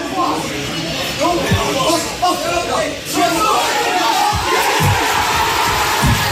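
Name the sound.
football fans cheering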